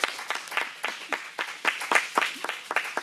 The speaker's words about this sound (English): The bill is passed. Congratulations. Thank you so much. And I think that deserves a round of applause, ladies and gentlemen.